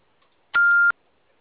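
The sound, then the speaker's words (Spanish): A single steady electronic beep, mid-high in pitch and fairly loud, lasting about a third of a second with a sharp start and stop, like one key pressed while dialing a phone. “Ah, ¿para qué le marcaste?”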